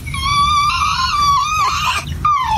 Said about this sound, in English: Vous avez entendu comment l'enfant a chialé d'émotion.